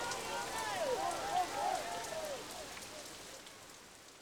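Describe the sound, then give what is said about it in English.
Heavy rain pours down in a steady, dense hiss throughout, during a storm at a concert, with faint wavering tones rising and falling beneath it early on before fading. “Now it's raining heavily.”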